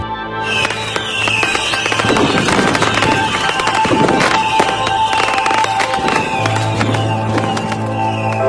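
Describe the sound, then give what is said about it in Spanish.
Small fireworks crackle and pop in rapid, irregular bursts, with sharp snaps scattered over a steady hum and bright whistling tones throughout. “Ahora las estrellas se habían convertido en pequeños fuegos artificiales.”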